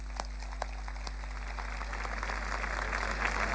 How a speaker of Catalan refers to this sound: Vagi per ell aquesta cantada d'avui i per tots els enamorats del mar que ens han deixat aquest any. Un aplaudiment per ells.